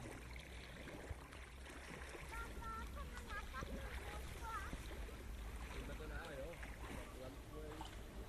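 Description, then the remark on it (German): A paddle churns lake water beside a boat, a steady sloshing and swirling that runs throughout, with faint voices or chirps in the background. “Wie ein Koch rühren mit Paddel, was ist das im See?”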